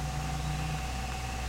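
An old car's engine idles steadily with a low, even rumble and a faint whine above it, a continuous drone with no voices and no change in pace.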